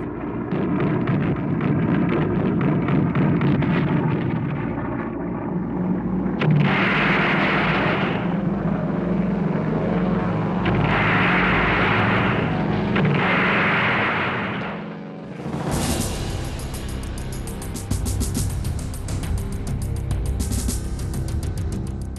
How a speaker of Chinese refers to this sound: 希特勒毫不犹豫，立即向英国发动空袭。整个夏天，英德两国飞机在英吉列海峡上空激战。